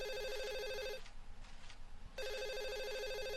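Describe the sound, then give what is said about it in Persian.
A telephone rings loudly, two bursts of a bright electronic trilling tone separated by a brief pause of quieter background noise, with no talking. “یک لحظه تلفن جا بتم.”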